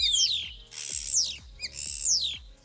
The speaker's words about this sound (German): Also, beim Star ist es relativ schwer, ihn zu erkennen, weil er so gerne andere Vögel nachmacht. Spotten nennt man das. Hier trotzdem nochmal der eigentliche Gesang eines Stares, wenn er gerade keine anderen Vögel imitiert.